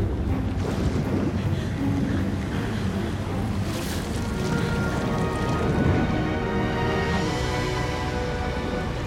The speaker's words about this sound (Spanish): Se forma un remolino a su alrededor.